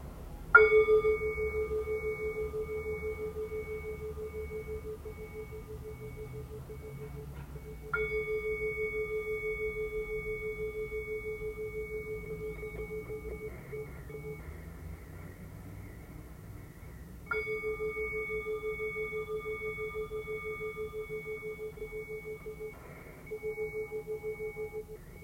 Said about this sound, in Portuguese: Ouça o som também que é suave e que se propaga desse gongo, trazendo você de volta para o espaço onde cada uma de nós está.